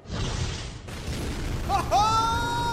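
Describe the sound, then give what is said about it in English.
A loud, rumbling explosion fills the scene with dense low booming noise, and a high, steady ringing tone rises over the rumble near the end. “Somewhere in the Shadowfell, an explosion.”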